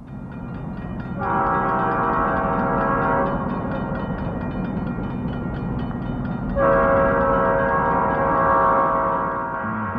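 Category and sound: vehicle, train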